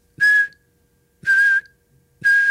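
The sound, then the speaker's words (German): Three sharp, shrill whistle blasts, each lasting about a third of a second, repeated at steady intervals of roughly a second, loud with silence between them; each whistle signals people lying down to do a jackknife exercise. “Bei jedem Pfiff ein Klappmesser.”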